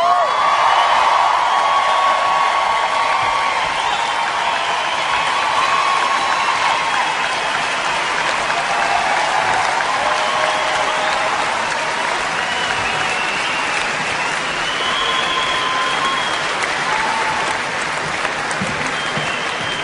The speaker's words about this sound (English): Can I please get another round of applause for the orchestra?